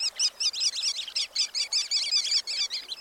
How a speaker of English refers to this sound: Though most birds that enliven beaches in summer have gone south, tiny sandpipers called sanderlings are easy to find on winter shores. They're intensely busy birds, persistently following the smallest waves as they lap in and out.